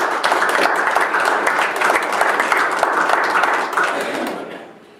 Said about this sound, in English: Give the Lord a hand of applause.